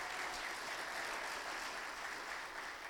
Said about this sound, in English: Just keep on applauding.